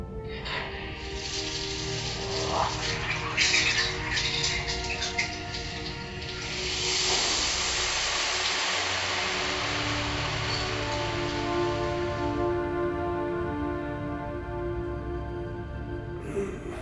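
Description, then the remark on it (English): A hot shower, set by a computer as hot as its safety protocols allow, runs in a steady, rushing hiss that swells slightly after the first few seconds and holds evenly, with a faint sustained electronic hum beneath and no voices. “What temperature would you like to shower this morning, Captain? As hot as your safety protocols allow.”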